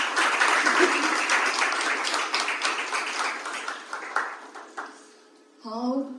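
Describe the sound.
Sustained audience applause welcoming the day's first singer-songwriter, a dense crackle of many hands, gradually thins out over about five seconds before a voice starts speaking at the end.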